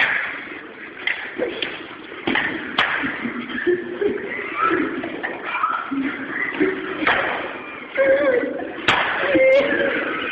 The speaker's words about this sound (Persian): طوری شد که دیگه ملت تو اوقات فراغتشون پا میشن میرن مسجد برای زدن سیلی محکم به دشمن، با هم دیگه تمرین میکنن.